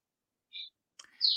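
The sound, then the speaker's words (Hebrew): A few short, high bird chirps sound outdoors, a brief tweet followed by a pause and then a brighter, sustained whistling call, fairly faint with no voices. “יפה, גם כל הציפורים שם, והתרנגולות.”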